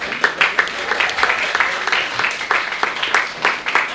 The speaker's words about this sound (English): More clapping.